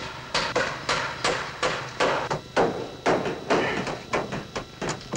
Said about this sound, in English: Everyone's gathered in the generator room, wrapped up in coats and gloves and hats. Carrington observes Bob and a few others hammering a length of wire to the walls.